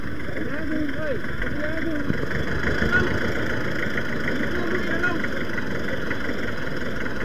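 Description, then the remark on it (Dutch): The engine of a tractor loaded with goods idles steadily, a continuous low rumble that holds through the whole stretch while people talk over it. “Nou, een tractor met spullen erin, die mag er niet in.”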